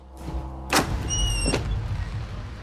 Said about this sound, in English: Paris, 18th December 1945. Back at Avenger HQ, Pasha Reichmann was waiting for Kovner's poison to arrive. Reichmann answers a knock at HQ's door and is handed something.